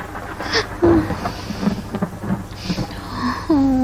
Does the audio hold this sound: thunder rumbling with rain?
yes